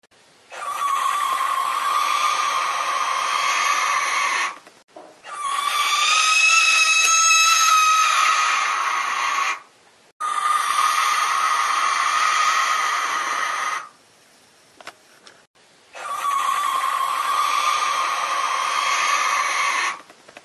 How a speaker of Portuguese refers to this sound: Você já ouviu a Carrasga Mortalha? Porque é pavorosamente, eu achava que... Não é o tipo de coisa que você queira ouvir na mata. Não é uma coisa que você queira ouvir nem dentro de casa, porque coloca para os ouvintes ouvirem o som da Rasga Mortalha.